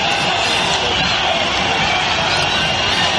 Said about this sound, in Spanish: Hemos escuchado otra vez los abucheos a Sánchez. Esto, por desgracia, esto que estamos escuchando se ha convertido en una tradición.